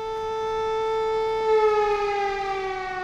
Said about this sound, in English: Remember the water tower siren at Grafenbeer? Brings it back, doesn't it?